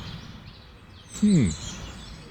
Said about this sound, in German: Also hier, wo ich gerade sitze, sind wieder eine Menge Vögel. Wilde Tiere. Hier hört ihr die wilden Tiere. Hört ihr die?